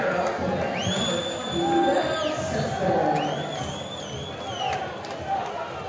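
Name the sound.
stadium crowd roaring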